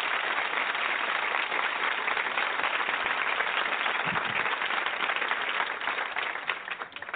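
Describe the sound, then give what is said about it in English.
A dense, steady burst of hand claps on the DJ Gatsby show, like a crowd applauding, fills the whole stretch at an even loudness before thinning out slightly at the very end. No one speaks. “I'll get some hand claps for that.”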